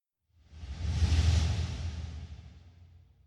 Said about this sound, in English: What happens when you guys go for a break? We listeners just hear a mysterious whoosh and then the episode continues.